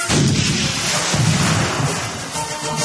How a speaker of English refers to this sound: The Nautilus shook from the explosions of the cannonballs in the water, but it went forward, ready to attack the enemy ship.